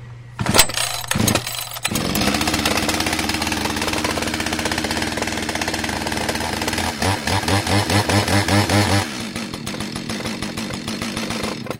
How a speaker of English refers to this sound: Never try to start a chainsaw or any engine without an adult.